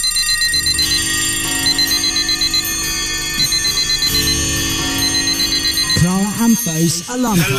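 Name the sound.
alarm clock ringing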